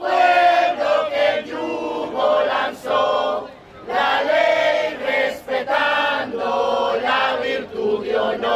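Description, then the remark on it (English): A crowd of protesters at a hands-off Venezuela rally chants together in loud, rhythmic bursts, repeating "Hands off! Trump out!" over and over with brief pauses between rounds, competing with a police helicopter circling above. “Protest chants competed with a police helicopter circling above.”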